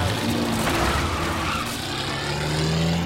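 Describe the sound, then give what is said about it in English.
A Jaguar car's engine rumbles steadily as it pulls out of a driveway onto a narrow road, its low tone climbing slightly as it drives away, with continuous tire and road noise underneath and no voices. “Now David turns out of the driveway onto the narrow road.”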